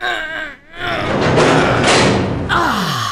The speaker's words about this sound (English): quick, help me push this door open!